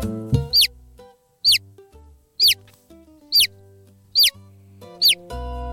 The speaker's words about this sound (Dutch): Een kuikentje. Ja, dit was een kuikentje inderdaad. Helemaal goed.